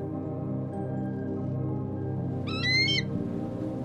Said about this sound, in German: Nur der ferne Ruf eines Adlers, der hoch über uns seine Kreise zieht, begleitet uns in diesem Augenblick von absolutem Frieden und Glückseligkeit.